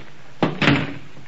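The back door of a kitchen is kicked shut: a quick thump followed a moment later by a louder bang as it slams closed, with a brief rattling decay and no talking.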